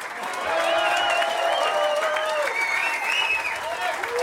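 A concert audience in Paris applauds a guitarist-composer and his band with double bass and drums, dense clapping holding at a loud, even level for several seconds, with cheering voices rising and falling through the crowd noise.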